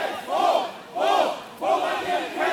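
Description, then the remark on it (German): Hundreds of people, some masked, yell in outrage on a wide forest path during a clash with police, surrounding a small group of officers; angry, overlapping waves of loud voices rise and fall in several surges with brief dips between them and no single clear speaker. “In das satirische Lied mischten sich plötzlich Schreie der Empörung von einem nahen, breiten Waldweg, wo es einen Zusammenstoß mit der Polizei gab.”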